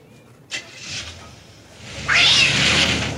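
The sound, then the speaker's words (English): A cat meows: a short, softer cry first, then a louder, drawn-out, strained meow that rises sharply and holds. No one speaks. “The cat.”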